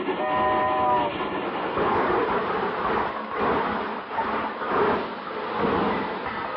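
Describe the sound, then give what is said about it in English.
A presidential special train rumbles steadily as it pulls in at a station platform, its horn sounding briefly at the start, followed by continuous rolling clatter of wheels and carriages with rhythmic surges as it moves along the track. “Why, when the presidential special pulled in, I'm the guy who stood on the platform singing, "Wait for the train to come in.”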